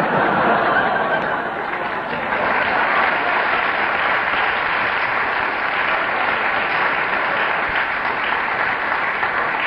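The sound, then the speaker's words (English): A sustained round of applause from an audience, dense and steady clapping at full strength for nearly ten seconds, with faint chuckles mixed into the crowd noise. “I think that round of applause was because this, on that occasion, it should have been television, because Kenneth was going with such further that he was illustrating with dramatic gestures what he was saying and thought he looked like Magnus Pike”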